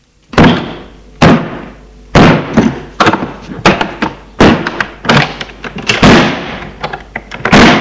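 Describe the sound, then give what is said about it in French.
A father forces a door with about ten heavy, booming thuds in an uneven rhythm, each blow loud with a brief rattling ring, and no voices. “il faut enfoncer la porte. C'est ce que fait le père.”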